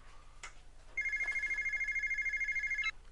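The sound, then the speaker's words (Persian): A telephone at the Bani Adam confectionery shop rings with a rapid, trilling electronic bell, a steady high-pitched warble lasting about two seconds over faint background noise, with no one talking. “ببین آه بذار اینم تلفون.”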